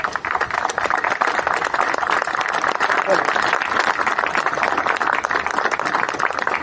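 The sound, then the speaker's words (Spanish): A crowd at a bocce court in the province of Neuquén applauds steadily for a 90-year-old bocce player for several seconds, a dense, continuous patter of many hands clapping at an even, fairly loud level with no voices standing out above it. “Y yo le voy a pedir un fuerte aplauso porque...”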